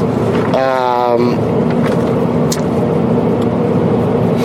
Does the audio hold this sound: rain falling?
no